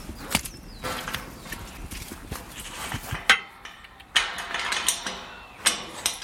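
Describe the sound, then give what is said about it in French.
A door into the walled release area of a crow rehabilitation site being opened: a rattle of latch and hinge mechanism, several sharp wooden clacks and clicks spread unevenly over a few seconds, with a scraping mechanical rasp between them and no voices. “La porte qu'on vient d'ouvrir ne doit pas forcément beaucoup influencer les corbeaux, où sommes-nous ?”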